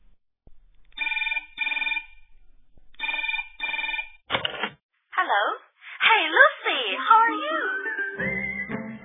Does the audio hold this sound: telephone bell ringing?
yes